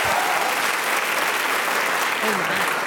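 A crowd applauds steadily for three seconds, a dense, loud wash of clapping with no breaks. A few faint voices murmur low beneath it.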